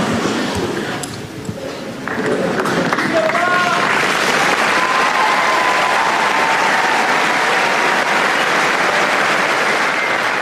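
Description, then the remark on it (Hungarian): A large crowd breaks into applause for Pope Francis's words and blessing, swelling after a couple of seconds into a dense, steady roar of clapping, holding loud and unbroken to the end, with faint voices mixed in. “A mai napon is tapssal köszönik meg Ferenc pápa szavait, az ő áldását.”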